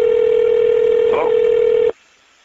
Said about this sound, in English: I hear phones ringing and all kinds of things.